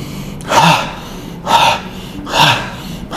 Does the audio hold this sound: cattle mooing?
no